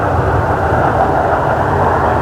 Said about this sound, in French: L'avion vole dans les airs.